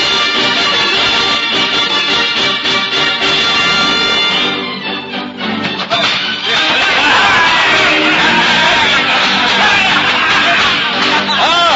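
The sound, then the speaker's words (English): The merry men of Sherwood, a loud, dense crowd, roar and cheer continuously as Robin and Little John fight with oaken cudgels in a forest glade, with overlapping shouts and yells, dipping briefly midway before swelling back to a full, excited clamor. “And look you now within the forest glade where cudgel meets oaken cudgel, as green-clad Robin matches blow for blow the noble efforts of Little John, the merry men of Sherwood withal, cheering on their mighty leaders.”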